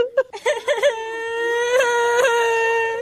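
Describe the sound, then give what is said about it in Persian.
A child cries, starting with several short, broken whimpering sobs that give way to one long, sustained, high-pitched wail lasting to the end. “بچه خونه گریاد میکنی مادرم.”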